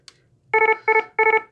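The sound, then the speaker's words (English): A medical alarm attention-grabbing tone, designed to announce a problem related to a patient's medication, sounds in three quick electronic bursts, each made of rapid stuttering beeps at a steady mid pitch. The bursts are loud and insistent, with no talking. “What you might do is you would announce an alarm by using something like this.”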